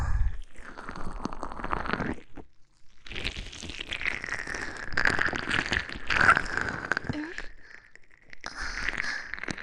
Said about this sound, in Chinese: 主人，肚子叫了，叫您看到我身体里面。嗯，不过，作为我的主人，你应该不忍心让你的仆从挨饿的吧？